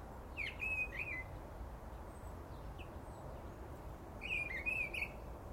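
songbird singing

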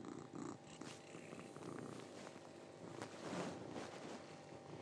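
cat purring

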